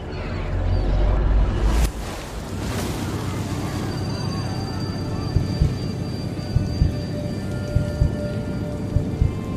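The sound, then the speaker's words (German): A small, overcrowded boat carrying 35 people, crossing open water to Greece: a steady rushing wash of water and wind with a heavy low rumble at first, then an even hiss with occasional soft thumps. “Es ist ein kleines Boot, mit dem Bassam nach Griechenland übersetzt”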